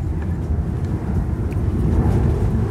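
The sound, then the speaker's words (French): High-society private jets take off and land, a loud, continuous low rumble of engine noise with no break and nobody speaking over it. “Et pendant ce temps-là, les jets de la High Society décollent et atterrissent.”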